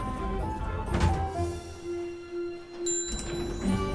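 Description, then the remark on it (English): The doors of a full lift slide shut with a soft thud, then a second mechanical movement follows as another lift's doors open, all over a steady low electrical hum. No one speaks. “Ashley strides up to a lift, but it's full and the doors close on her.”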